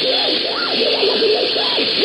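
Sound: radio static interference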